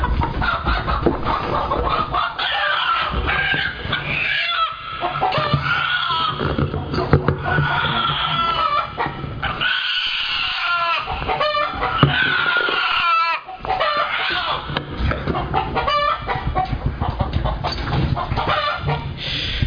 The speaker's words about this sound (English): Now this chicken over here, it's really nothing really special. It's probably the opposite of special. It's not a specific breed, but it's a, I would call it a, this is a primitive leghorn